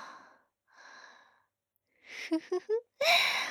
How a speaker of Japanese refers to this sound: あくびが映ったね。